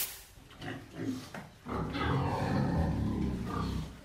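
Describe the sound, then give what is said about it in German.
A pig named Balsam, with pink and black bristles, lies on its side and grunts: a few short, rough snorts at first, then a louder, sustained stretch of low, throaty grunting with no voices. “Balsam liegt auf der Seite und grunzt.”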